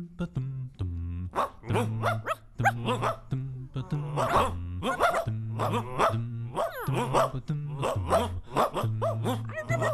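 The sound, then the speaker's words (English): A dog barks over and over in quick, rhythmic bursts, set against a steady, pulsing bass line. The barks are loud and keep going the whole time. “your dog is freaking me out.”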